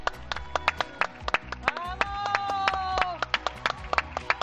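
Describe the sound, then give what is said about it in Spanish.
A small group of people in Seville, Spain, applauding with loose, irregular sharp claps, fairly clear, while a voice holds a long sustained call over the clapping midway through. “Y así aplaude la gente.”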